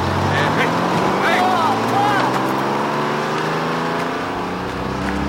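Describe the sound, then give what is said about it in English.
The engine of the last bus of the day rumbles steadily and loudly as the bus drives away, its low droning pitch sliding gradually downward as it eases off, with a few faint squeaks over the top. “Last bus of the day.”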